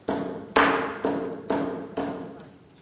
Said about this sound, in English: A knock at the outside door. Who could it be, you say to yourself, at this time of night?